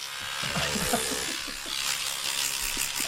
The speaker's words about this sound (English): Now, I know that sound. That is a Norelco shaver. That is an electric toothbrush.